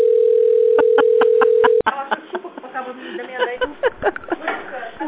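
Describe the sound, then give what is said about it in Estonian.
A steady telephone line tone hums for almost two seconds, broken by a quick run of short clicks, then cuts off as a person starts talking over a narrow, phone-like line. This is a call on hold to the Allfresh sales department, with a message saying all lines are busy and asking the caller to hold. “Olete helistanud Allfreshi müügiosakonda. Hetkel on kõik liinid hõivatud. Jääge palun ootele.”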